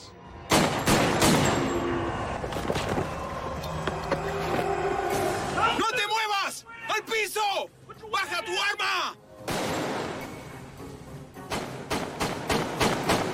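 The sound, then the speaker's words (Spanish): Loud bursts of gunfire crack out in quick succession during a shootout between police officers and a gunman, many sharp shots close together, pausing while voices shout urgently, then the rapid shooting resumes. “Escuché la grabación de la cinta y los disparos fueron sucesivos.”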